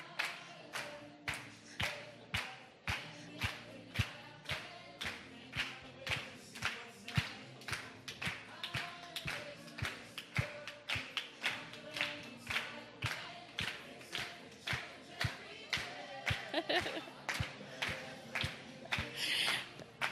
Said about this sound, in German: Also, ihr habt super geklatscht, Church. Super geklatscht. Ja, wirklich. Top. Top.